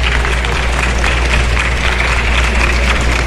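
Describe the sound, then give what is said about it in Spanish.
An audience applauds Dr. Diego Hernández for his work at Colciencias, a dense wash of many hands clapping at even loudness for about three seconds, with a low electrical hum running underneath. “Doctor Diego, mi reconocimiento y pido un aplauso para usted.”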